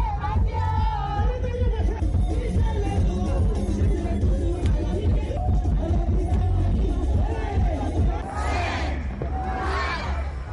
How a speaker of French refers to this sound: Ses titres sont repris en chœur par la foule en délire.